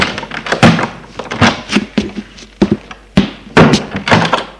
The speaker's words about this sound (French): Un quart d'heure plus tard, la porte du salon s'ouvre.